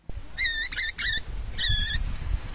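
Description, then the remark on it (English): Critically endangered baby swift parrots beg loudly while being fed by their mothers in nest boxes high in gum trees on Bruny Island, Tasmania, giving several bursts of harsh, buzzy, high-pitched calls in quick succession over a low background rumble. “High in the gum trees on Tasmania's Bruny Island, critically endangered baby swift parrots are being fed by their mothers in nest boxes.”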